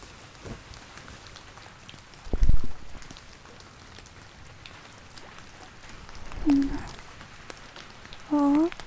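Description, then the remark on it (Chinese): Steady rain patters softly and evenly throughout, a continuous hiss of drops on a surface, broken by a few brief louder sounds and faint murmuring voices in the background. “好啦，在这漫天的烟花与故乡的雨声中，我们的大英雄该睡觉了。”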